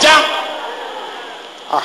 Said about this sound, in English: There is a slapping sound now.